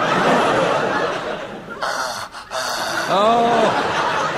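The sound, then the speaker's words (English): Heavy, rasping breaths huff down a telephone line, loud and continuous, with a brief pause and then a short voiced snort or gasp near the end, from a caller phoning in to the Round the Horn Forum of the Air. “Would you mind breathing up a bit?”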